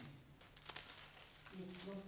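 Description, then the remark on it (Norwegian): Soft papery rustles and crinkles as book pages are flipped after a bookmark is taken out, a few brief bursts, with a faint voice murmuring underneath toward the end. “Vi tar ut bokmerket, vet du, så han blar.”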